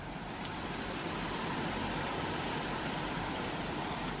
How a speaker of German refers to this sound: Man hört es schon, ich bin jetzt in Wassernähe. Ich stehe jetzt direkt vor dem Schloss und hier befindet sich auch eine alte Schlossmühle.